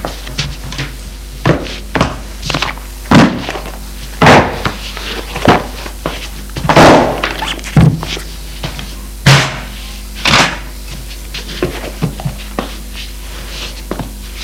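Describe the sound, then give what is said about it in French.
A man standing on a chair sets two piles down on top of a wardrobe: a dozen or so irregular wooden thumps and knocks, some sharp and loud, with short pauses between and no talking. “Monte sur la chaise et va y déposer au-dessus de l'armoire.”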